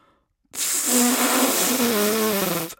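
Someone blows into a cucumber with its ends cut off and holes drilled in, meant as a flute: a single loud, breathy rush of air lasting about two seconds, with a faint, wobbly low tone barely sounding through the hiss. No one speaks.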